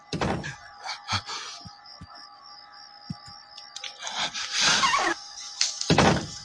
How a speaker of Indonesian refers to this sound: Kalau sudah begini tidak mungkin angin. Aku pun coba mengintip pembuka mataku dan benar saja kulihat pintu kamarku itu terbuka dan tertutup sendiri.